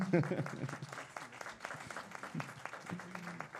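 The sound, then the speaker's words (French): An audience in a hall applauds once no one in the hall has anything further to add, a dense steady patter of many hands clapping at moderate volume, with a few voices murmuring underneath. “Et bien voilà, s'il n'y a plus d'intervention dans la salle, ouais, on peut applaudir.”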